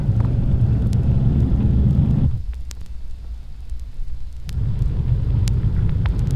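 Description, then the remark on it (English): A police patrol car cruises around East Sacramento with a steady low engine rumble and road noise. The rumble briefly drops quieter midway, then swells back up, with faint clicks and ticks scattered throughout. “We're out around East Sacramento now. We'll cruise the area, see what we can find.”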